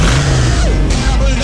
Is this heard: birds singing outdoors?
no